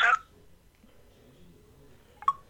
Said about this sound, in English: And there we go. Hang up my landline.